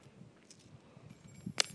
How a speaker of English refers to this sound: That's my keys dropping onto the floor.